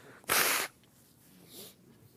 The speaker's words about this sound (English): and you're going to have to bear with me. I'm going to have to blow my nose a lot today.